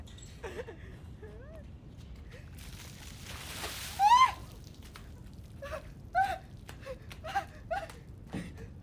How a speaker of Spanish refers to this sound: Mi esposo nos va a echar la cubetada de agua, chicas, así que vamos a... ¿Están listas? Vamos.